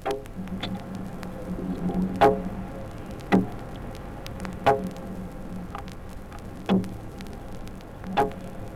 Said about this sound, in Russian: Звуки зеленушки через стекло аквариума слышны простым ухом.